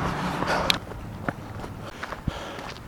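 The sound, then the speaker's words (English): Footsteps of a person on a walk break, walking outdoors behind a building at the Kirk, a handful of soft, slightly irregular steps crunching over a steady low background rumble, with no one speaking. “I'm walking behind the building. I'm on a walk break.”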